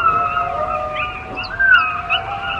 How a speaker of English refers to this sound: On the Pacific Coast beaches of Canada's British Columbia, there are packs of seawolves that roam the coastline, eating fish and seafood. This is what their pups sound like.